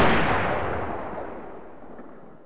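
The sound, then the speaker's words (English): A single gunshot from a gun going off accidentally, with a sharp, loud crack, followed by a long rumbling tail that slowly fades over a couple of seconds. No one speaks. “Gun went off accidentally then.”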